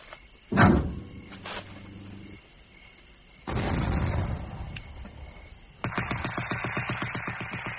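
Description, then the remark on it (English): A sharp, booming explosion at night in the direction of Saigon, with a lingering rumble, followed a few seconds later by sustained bursts of rapid machine-gun fire rattling in a steady, even rhythm. No one speaks. “There was an explosion, a machine gun spat and spat again and was silent.”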